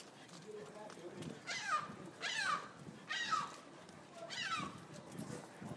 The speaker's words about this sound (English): Wow, even the birds sound different.